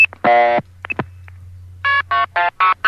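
International blue-box telephone signaling tones played over a Skype call: a sustained multi-tone burst and a few clicks, then a quick series of five short, evenly spaced tone beeps, loud and clear with no talking.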